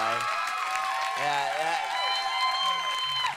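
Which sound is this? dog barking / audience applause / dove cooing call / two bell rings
audience applause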